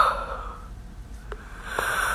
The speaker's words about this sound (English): Sorry. But yawns are a part of the show.